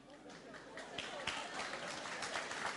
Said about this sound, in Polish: Ja wiem, że mężczyźni klaszczą, oczywiście.